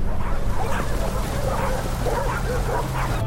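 dog barking

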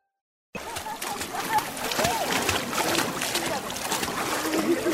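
water splashing

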